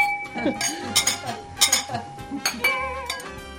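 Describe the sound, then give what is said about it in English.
Several bright glassy clinks ring out in quick succession, crisp, as glasses are raised in a toast to a chef and cooking teacher, with faint kitchen clatter and a low murmur of voices underneath. “Here and Now's resident chef, …, toasting chef and cooking teacher ….”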